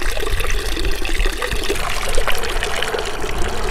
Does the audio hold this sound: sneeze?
no